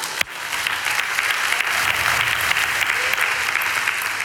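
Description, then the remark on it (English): A church audience bursts into sustained clapping and applause to praise God, a dense, steady wash of many hands from start to finish without any talking. “Now you can clap and praise God.”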